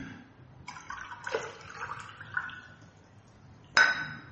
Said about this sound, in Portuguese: Vou tomar água.